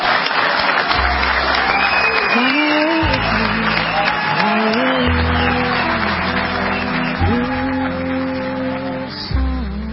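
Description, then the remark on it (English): Sustained audience applause for Sal Ginta at the presentation of his medal for valor, a dense, loud wash of clapping with crowd noise and some murmuring voices mixed in, holding steady before tapering slightly at the end. “Let's give Sal one last big round of applause.”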